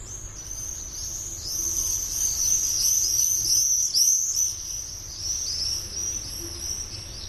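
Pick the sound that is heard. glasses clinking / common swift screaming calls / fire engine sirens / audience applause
common swift screaming calls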